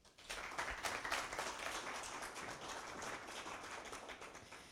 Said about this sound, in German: Applaus.